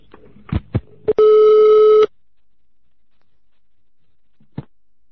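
A few sharp handset clicks, then one steady electronic telephone ring tone lasting under a second, followed by silence and a faint final click. No one speaks.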